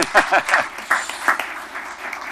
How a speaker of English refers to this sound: Adults ought to get applause, too. That's right. That's the way it should be.